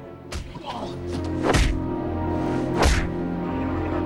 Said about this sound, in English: John pulls the sniper down to the floor and punches him hard.